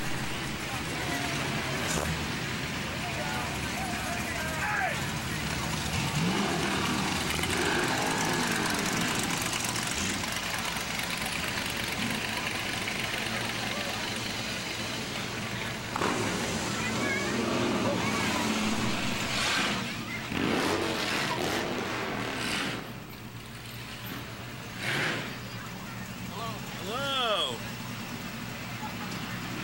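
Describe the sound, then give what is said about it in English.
Car engines idle with a steady low rumble, with occasional louder revs rising out of it, while voices chatter in the background at a busy outdoor car show at night. “Beautiful night for a car show.”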